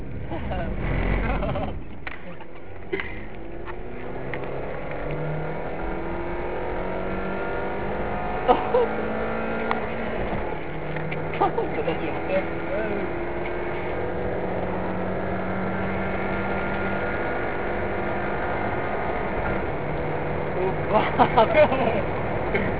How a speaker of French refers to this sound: Nous allons placer le micro près du moteur. Attention. C'est parti. Ça, c'est les roues.